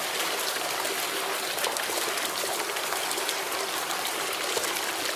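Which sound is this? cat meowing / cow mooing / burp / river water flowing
river water flowing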